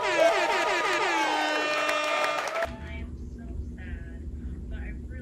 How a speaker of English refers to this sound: When it finished, gonna drop that air horn.